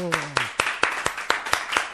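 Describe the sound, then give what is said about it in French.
Applause from a full studio audience after a sung performance, in a steady rhythm, about eight sharp claps evenly spaced, with a short stretch of voice at the very start. “Et voilà, tu vois, tout le monde t'applaudit.”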